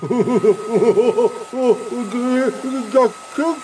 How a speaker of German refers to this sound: Föhnen, bitte.